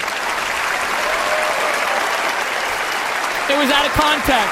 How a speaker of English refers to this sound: One second. Hold up. Audience applause.